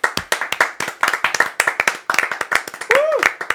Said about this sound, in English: He's trying to get there, though. Can we just clap? Can we just...